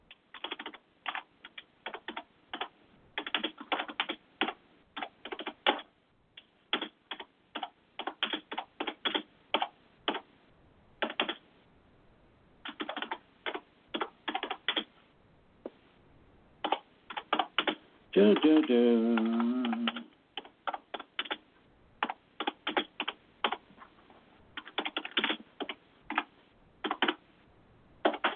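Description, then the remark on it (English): Rapid clicking of keys on a computer keyboard, typed in uneven bursts with short pauses, fairly loud, with a brief tonal, voice-like sound about two-thirds of the way through. “Get my eyes on so I can see the keyboard.”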